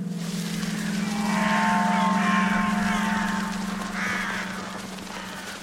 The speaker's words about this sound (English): a bunch of crows took to the sky in the near cornfield.